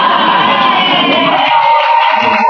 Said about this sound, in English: Yes. You're applauding, huh?